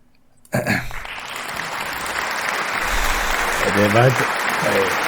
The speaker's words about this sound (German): Der war der langsamste Applaus, den ich je gehört habe.